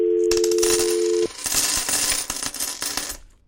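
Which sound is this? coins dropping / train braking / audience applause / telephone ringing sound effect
coins dropping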